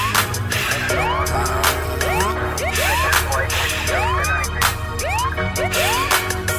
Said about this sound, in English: Don't close that shop. The ambulance coming.